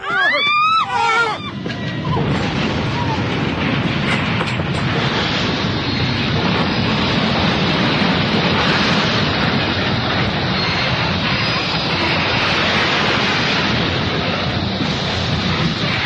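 A train's brakes give a sharp, wavering metallic screech as it stops and crashes off the rails, then a loud, sustained grinding roar takes over and rumbles on steadily, heavy, with no voices.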